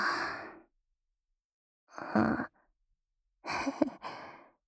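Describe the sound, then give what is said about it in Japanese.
Three drawn-out, breathy yawns, fairly loud, separated by short silences, trailing off, with no talking. “あくび映った？釣られちゃったね。”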